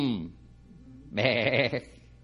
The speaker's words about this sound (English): Well, what meaneth then this bleating of the sheep in my ears and the lowing of the oxen which I hear?